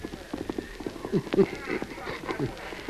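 The Lone Ranger's horse Silver gallops hard toward the cutoff, its hoofbeats pounding out a quick, uneven rhythm of sharp clip-clop thuds, fairly loud and continuing steadily for the whole few seconds.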